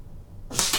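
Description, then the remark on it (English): A single sharp thwack of a dart striking a paper-covered foam target, a bright papery burst with a slight rustling tail, following a quiet moment. “If you have real sharp hearing like I do, you can kind of tell between hits and misses, because the darts going through a layer of paper makes a different sound than, you know, just hitting the foam.”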